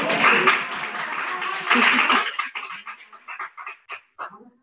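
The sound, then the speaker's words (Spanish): An audience at a recorded event where Madrid political parties answer questions on education applauds in a dense, steady wash of clapping for about two and a half seconds, then it thins out into scattered, separate claps that fade away. “Aquí siguen aplaudiendo.”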